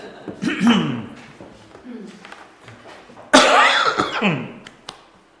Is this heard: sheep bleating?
no